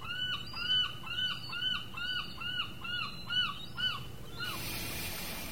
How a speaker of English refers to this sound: And so right now the tide looks mostly out. You can see revealed all sorts of stones and seaweed and barnacles, kelp. And that's where the gulls are kind of parading around the intertidal zone.